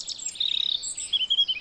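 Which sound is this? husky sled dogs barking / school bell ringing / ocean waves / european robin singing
european robin singing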